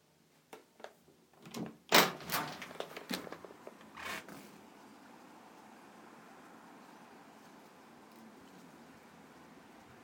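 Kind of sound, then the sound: vehicle, car pulling up outside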